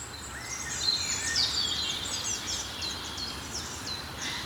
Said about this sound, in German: Und hinter uns ist der Waldlaubsänger. Eben schon mal erwähnt, der macht die... Und dann hat er noch so einen hohen Pfeifton. Den ich jetzt nicht zu laut nachmachen will.